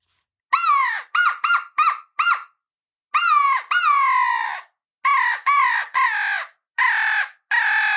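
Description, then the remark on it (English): Recorded turkeys calling in a string of loud, harsh bursts, quick short calls at first, then longer, rougher growling ones toward the end, like birds squabbling. No one speaks. “And they do that, like that little growl that there growl, at the end, like they're fighting.”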